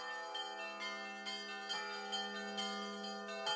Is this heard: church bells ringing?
yes